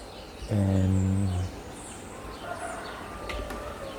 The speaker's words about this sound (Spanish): Y sí, un gallo está llamando. Un gallo. Y unos pajaritos.